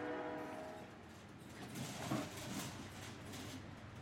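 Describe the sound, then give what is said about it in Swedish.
A rattling, rumbling freight train rolls along the tracks in a steady, fairly quiet wash of noise, with a faint metallic whine at the start and a brief clunk midway, heard from a goods wagon carrying packages on its way to town. “Och han vaknade inte förrän han var på väg till stan i godsvagnen på tåget och skakade fram och tillbaka bland de andra paketen.”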